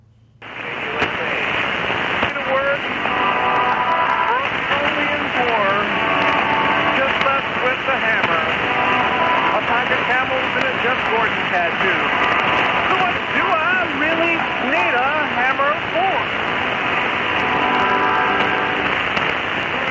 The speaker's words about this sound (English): Zane Radio caught KUSA 6925 Upper Sideband the 29th of August. He says moderate to weak signal coming into Chicago. Noise wasn't too bad. There was a couple static crashes in there. Take a listen to KUSA.